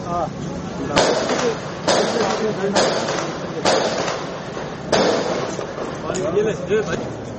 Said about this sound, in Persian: مهاجمان انتحاری ناوقت جمعه بر این قرارگاه هجوم بردند. در تصاویر تلویزیونی افسران در اطراف مرکز پلیس دیده شدند. صدای انفجار و تیراندازی هم شنیده شد.